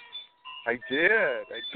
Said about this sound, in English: Oh, I had to go outside to do this. I literally had to go in my garden. Lovely. That was lovely. I went in my garden, so I don't know if you heard the chime.